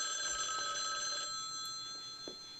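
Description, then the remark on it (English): A telephone bell rings in a film clip before Elizabeth Peña's character answers, a bright, steady metallic trill that holds for about a second and then lingers more faintly, heard alone without any voices. “Elizabeth Peña answers the phone.”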